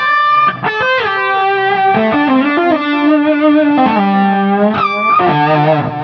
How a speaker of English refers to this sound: For the lead moments, same thing with the Leslie on it.